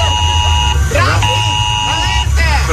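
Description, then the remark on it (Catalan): A loud electronic alarm buzzer drones as a steady, high-pitched tone, cutting out briefly a few times, while people talk over it and a low rumble continues underneath. “Però si ahir es queixava pues que l'interrompien i que aquesta alarma li molestava.”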